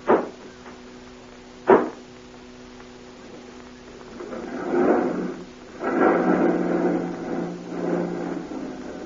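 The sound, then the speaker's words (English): Two heavy vehicle back doors slam shut in quick succession, loud, followed by an engine rumbling up and running over a steady low hum. “Close those back doors.”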